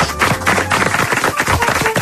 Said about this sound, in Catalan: Aquest aplaudiment és per a Cacau d'Oliveres.